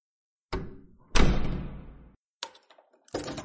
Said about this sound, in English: All right, the door is locked? Yeah. All righty.